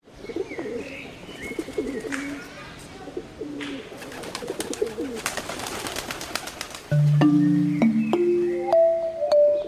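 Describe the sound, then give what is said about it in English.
Homing pigeons coo softly in low, rolling murmurs, with bursts of fluttering wings and scattered chirps. A louder sequence of held, stepped tones takes over near the end. “During World War I, Europe began to look to homing pigeons as a means of communication.”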